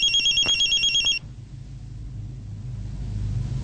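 A mobile phone being called rings with a rapid, warbling electronic trill for about a second, then cuts off as it is picked up, leaving a low engine-like rumble that slowly swells in the background.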